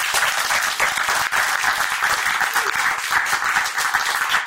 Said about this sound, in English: So can we clap it up for that?